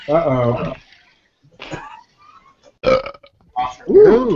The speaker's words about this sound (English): Ooh. I was burping like that.